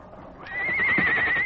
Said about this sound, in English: The horses are scared. They smell it, too.